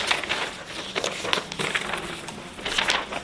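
Paper sheets, a one-page reference handout in a class, rustle and crinkle for a few seconds, a steady papery shuffle with brief sharper crackles scattered throughout, no voices present.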